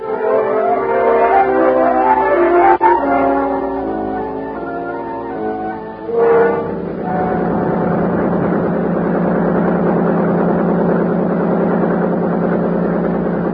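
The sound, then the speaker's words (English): A motorboat engine on a lake roars up and settles into a steady, loud drone for the second half as the boat travels up the lake at an easy 39 on a clear, warm day, following a few seconds of sustained bell-like tones. No voices. “Time on Buster's boat pulled us up the lake at an easy 39.”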